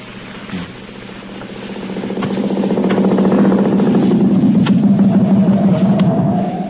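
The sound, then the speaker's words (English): A motorcycle engine runs, starting softer and swelling to a steady, loud throbbing rumble that holds for several seconds with no voices. “go right into the motorcycle.”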